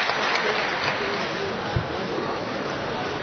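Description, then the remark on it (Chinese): A large audience applauds steadily for several seconds as crosstalk performers Guo Qilin and Yan Hexiang come on stage for a lantern-riddle act, a dense, even wash of clapping that holds at a constant loudness, with faint crowd voices mixed into the noise. “感谢大家伙的掌声鼓励。”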